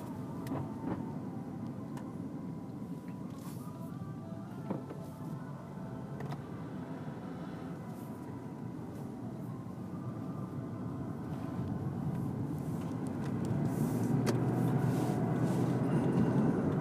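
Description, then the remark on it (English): A steady low rumble of a car driving onto the freeway, road and engine noise filling the cabin, gradually growing louder as it picks up speed, with occasional faint clicks and no talking. “Now let's hit the freeway in style.”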